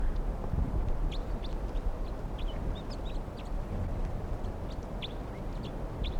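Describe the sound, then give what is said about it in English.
A large flock of wild crossbills calls continuously around a net they are weighing down, some caught, at about 11:52 a.m., many short high chirps and peeps scattered over a steady low rumbling background, with no voices. “It's a huge flock. And they're starting to really weight down the net.”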